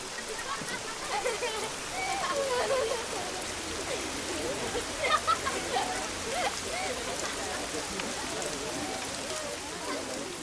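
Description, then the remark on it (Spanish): Steady rain hisses down over Padan in a dense, even wash, with brief faint voices or cries surfacing over it now and then. “Mira la lluvia que aplaca el hambre de Padán.”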